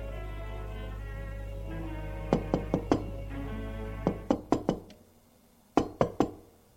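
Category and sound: household object, knocking on a door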